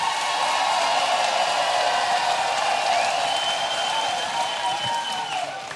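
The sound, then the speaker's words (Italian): A loud, sustained burst of crowd noise: an audience voting by applause meter against giving animals human names, clapping and cheering continuously, with whistles and shouts rising over dense applause that barely fades across the whole stretch. “Contrari ai nomi umani e agli animali, casino! Fate casino!”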